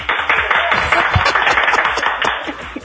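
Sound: audience clapping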